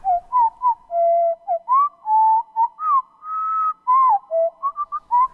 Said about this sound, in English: Any small songbird, like the winter wren, once you start to slow it down, it develops this richness because now we're starting to hear the individual elements and we're lowering it to a frequency where our ears can pick it up.